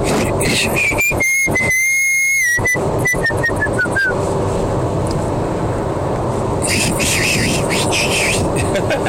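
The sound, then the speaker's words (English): A person tries to whistle, producing a few thin, wavering tones over breathy air for about three seconds, then a run of short, faltering bursts before the whistling gives way to rustling noise. “God, how do you whistle?”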